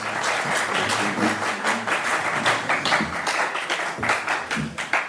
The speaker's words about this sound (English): I mean, there were three moments where the journalists in attendance gave rounds of applause.